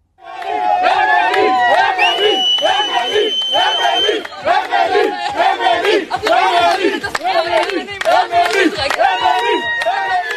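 Family and friends of freed British-Israeli hostage Emily Damari cheer and chant her name loudly in unison after hearing the news of her release, voices rising in excited, rhythmic shouts with bursts of high-pitched whoops throughout, sustained and energetic.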